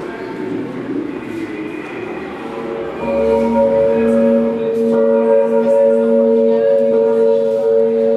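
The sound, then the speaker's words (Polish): A large cast bronze bell, recast with bell founders from around Venice for a sound art work by Hiwyk that visitors set ringing themselves, rings out partway through, its deep, layered tone swelling and humming steadily over a murmur of background noise and faint voices. “Też praca w pewien sposób dźwiękowa, praca Hiwyka, który odlał ponownie dzwon, posługując się ludwisarzami z okolic Wenecji.”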